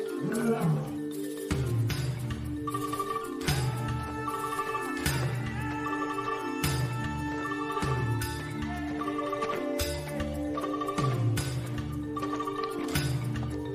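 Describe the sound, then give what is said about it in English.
A deep, rumbling lion roar repeats in heavy bursts roughly every second or two, loud, with sustained tonal ringing layered over it and no clear speech. “We brought you a lion. King of the beasts. Terror of the jungle.”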